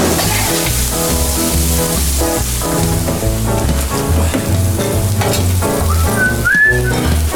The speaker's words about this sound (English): What do you throw in there? A little water. A little water. Okay. Steams up the mushrooms for you.